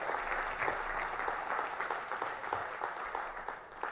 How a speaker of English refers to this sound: Here comes my Bible. Everybody give this guy a round of applause, man.